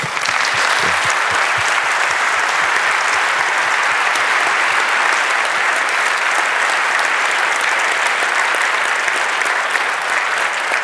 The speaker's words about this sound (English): If there's no other question, gentlemen, because you're always so swift, you deprived us of the opportunity to applause and thank you.